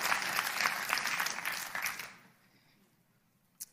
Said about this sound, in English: Yeah, we can clap at that. Good news.